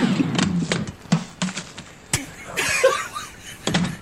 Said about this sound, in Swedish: Ja men visst, och jag har fått ett mejl här från Ingrid Moljär i Åsarp som skriver till oss att hon så ofta hon bara kan vill höra ljudet av en inplastad rostbiff som ramlar ut när man öppnar kylen. Självklart Ingrid, den kommer här.